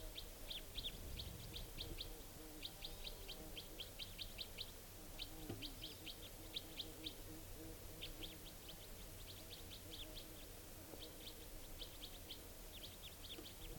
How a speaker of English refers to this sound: And this type 4 female is calling here. Wild bird. Doing a rapid type 4 series.